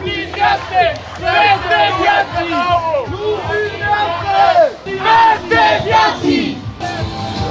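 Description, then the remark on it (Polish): A large crowd on a peaceful march in Lublin chants the slogan "Lublin miastem akceptacji!" (Lublin, city of acceptance) in unison, loud rhythmic shouted phrases repeating over and over, with a dense wash of many overlapping voices throughout. “Idziemy już marszem, proszę wszystkich, byście zaczęli wreszcie krzyczeć Lublin miastem akceptacji!”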